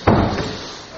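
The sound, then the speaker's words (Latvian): A door shuts with a solid thud, followed a moment later by a second, softer click as the door is locked, then quiet. “Jā, aizslēdzu.”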